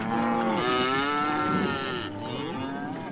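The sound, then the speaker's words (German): Seven cows, driven aboard as living food supplies for a voyage, moo in long, drawn-out bellows, one call rolling straight into another, loud with no voices around them. “Als lebendige Essensvorräte wurden 7 Kühe an Bord getrieben.”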